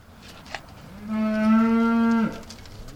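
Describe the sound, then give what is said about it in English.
A single long, steady moo from beef cattle at evening feeding on a family farm in northern Indiana rings out for over a second, strong, with a brief click beforehand and quiet background after it fades. “Jacob Smoker does his evening chores feeding the cattle”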